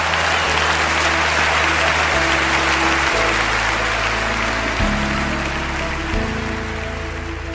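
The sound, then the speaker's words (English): A large audience applauds loudly and steadily after a sermon, a dense, continuous roar of clapping with a low organ-like tone shifting between held notes underneath. “Thunderous applause.”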